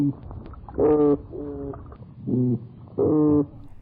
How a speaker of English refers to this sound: These sounds are said to be the loudest ones of any marine fish. They can even be heard from above the water surface. The noise made by toadfish rather resembles foghorn-like sounds.